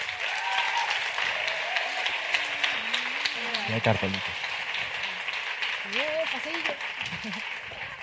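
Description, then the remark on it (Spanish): Sustained, dense applause from a large audience welcoming onto the stage the creators and cast of Vida Perfecta, the new Movistar Plus series: Leticia Dolera, Manuel Burque, Isa Villagrán and Celia Freijeiro. A few voices and cheers faintly rise over the steady clapping for several seconds. “Así que recibamos en este escenario con un fuerte aplauso a Leticia Dolera, Manuel Burque, a Isa Villagrán y Celia Freijeiro.”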